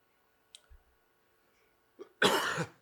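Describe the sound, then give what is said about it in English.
A few small throat-clearing clicks, then one loud, harsh cough burst that fills the last half second. No speech. “Let me get my cough done away with.”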